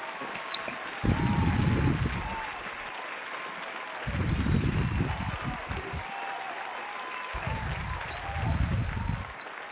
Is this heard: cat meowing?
no